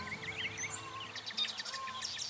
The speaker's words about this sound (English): Well, look, right over there is a pair of pied-billed grebes. They have a wonderful sound. If we're lucky, we'll hear them in a second.